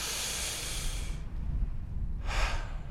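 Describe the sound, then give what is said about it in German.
A deep, airy breath drawn in through the nose, fairly loud, followed after a short pause by a second, briefer breath, taken beside a wall planted with moss. No one speaks. “Man atmet hier wirklich tief und spürt so einen ganz leichten Waldgeruch.”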